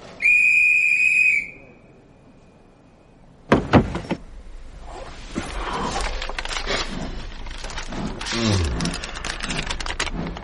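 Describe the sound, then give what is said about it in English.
A single shrill, steady whistle blast sounds for about a second and a half, then after a pause a heavy thump gives way to continuous rattling, hissing clatter as the train starts moving. “All ahead, train! All ahead, Bangor! All aboard!”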